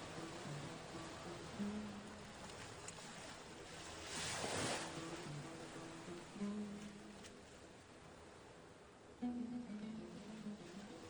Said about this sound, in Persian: منتها دوست و یار و همدمش دریای طوفانی در شب بود.